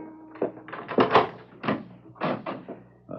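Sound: door being opened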